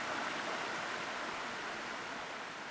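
Steady, dense rush of falling water from a large waterfall, with a constant splashing hiss, holding an even loudness throughout with no voices.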